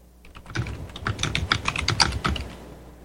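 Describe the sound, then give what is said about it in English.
Rapid typing on a computer keyboard while typing a message to John Stattmiller, fairly loud, a quick irregular stream of crisp key clicks over a few seconds with no voices. “Let's see, I'm just typing a message here to John Stattmiller.”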